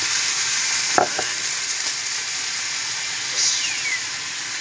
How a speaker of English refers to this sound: So obviously you've got some red wine. So, hear that sizzle there. Bit of red wine. There we go.